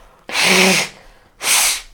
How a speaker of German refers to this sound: Ich muss mal kurz Nase putzen, sorry.